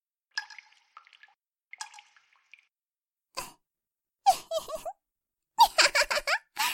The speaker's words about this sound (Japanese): 3、2、1、ポタポタ、ポタポタ。